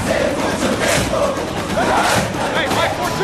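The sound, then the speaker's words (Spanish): A large stadium crowd roars and cheers in a dense, continuous wash of voices, loud and steady for a few seconds, with shouts rising out of the din. “Hay diferentes maneras de ir a un estadio.”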